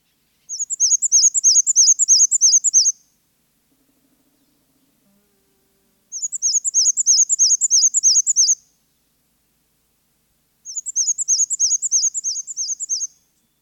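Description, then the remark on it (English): A black-and-white warbler sings three times, each song a thin, high, wheezy run of rapidly repeated squeaky notes lasting a couple of seconds, separated by quiet pauses. Clear, with no other sounds. “Listen to its thin, high-pitched, wheezy, wheezy, wheezy song that almost sounds like a squeaky wheel.”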